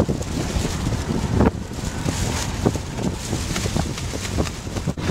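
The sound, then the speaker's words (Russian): Strong Levante wind, blowing from the east, roars steadily across the microphone over the sea in the Strait of Gibraltar during a kitesurfing event, with a heavy low rumble and gusting buffets, while waves wash faintly underneath; no voices are heard. “В этот день ветер дул с Леванта, то есть с материка в восточной части Средиземного моря.”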